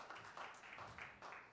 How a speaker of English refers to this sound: That's a pathetic hand clap.